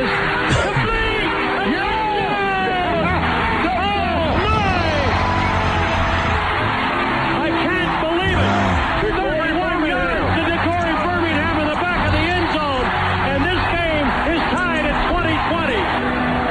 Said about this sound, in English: Wow, listen to that crowd.